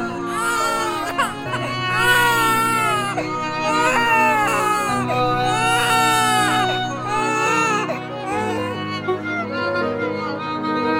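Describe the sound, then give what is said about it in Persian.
A newborn baby cries loudly and continuously in repeated wailing bursts, its voice rising and falling, over a steady low musical drone that shifts pitch a couple of times. “مبارک باشه بچه هم به دنیا اومد.”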